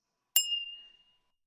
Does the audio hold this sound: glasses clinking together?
yes